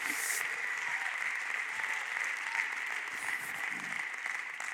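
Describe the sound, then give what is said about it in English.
An audience claps their hands together, many hands at once making a dense, steady wash of applause that holds at an even, moderate level for the whole stretch without pausing. “My God, somebody clap your hands and remember who you are today in Jesus Christ.”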